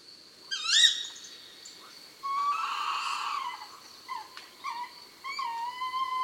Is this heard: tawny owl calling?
yes